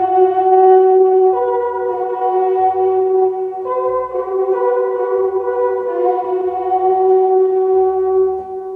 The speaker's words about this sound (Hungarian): A Lehel kürtje, vagy egy másik kürt, amit így hívnak, de nem az, ki van állítva egy múzeumban. Nagy figyi, megmutatom a Lehel kürt hangját.